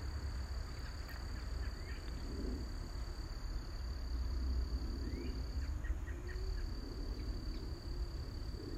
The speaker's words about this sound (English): So clearly you can hear the sounds of nature. You can hear the birds and the crickets where I am. So tune in to what you hear in my space as well as what you hear in your space.